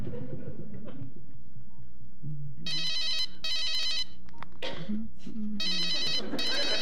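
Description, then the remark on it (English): A telephone rings out on the line as an outgoing phone call is placed, three clear bursts of a bright electronic ring in a steady rhythm, with low murmuring noise in between. “I got to make a phone call.”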